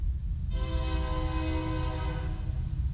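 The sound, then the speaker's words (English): A train horn sounds one long, steady blast over the heavy low rumble of a passing train, then cuts off while the rumble continues. “You've been trying to stall, like I'm stalling until the train goes by.”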